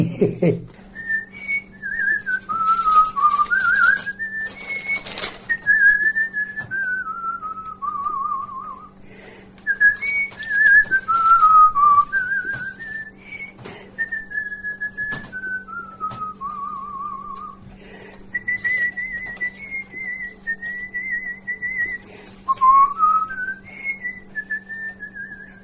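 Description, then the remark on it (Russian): An elderly man whistles a wandering melody while walking, clear tones gliding up and down in phrases with short pauses between them, over a steady low hum. “Как я с детства свистел, так все и насвистываю.”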